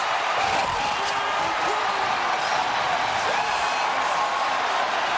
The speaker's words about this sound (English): That is the crowd. How sweet it is. 45,000 fans watching a Jumbotron.